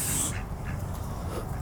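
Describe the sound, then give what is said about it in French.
A sharp, breathy hiss bursts out, followed by softer, intermittent hissing over a low rumble of background noise, as geese hiss defensively to protect a gosling. “Donc là on a les bruits de sifflement parce que du coup ils font de la protection sur bébé oie.”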